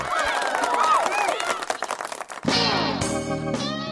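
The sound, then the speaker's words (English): A canned applause sound effect played from an applause button: dense, steady clapping for a couple of seconds, then loud cheering and whooping voices that carry through to the end. “Let me go applause button.”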